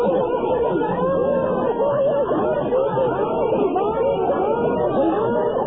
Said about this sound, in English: This is not a tape we are playing. These are six women from across America who are screaming for Power Rangers costumes for their kids.